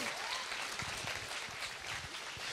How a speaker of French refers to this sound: Faites-vous savoir juste en applaudissant pour voir si vous êtes heureux de ça.